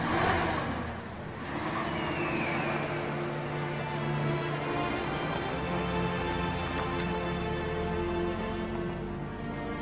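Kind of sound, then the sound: vehicle, car driving and accelerating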